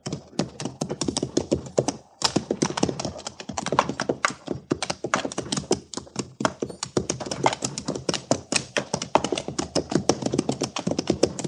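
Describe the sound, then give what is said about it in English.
Rapid hoofbeats clatter steadily for several seconds, a dense run of sharp clip-clopping strikes with only a brief pause, and no voices. “There's a horse yonder, Captain, over by the stream.”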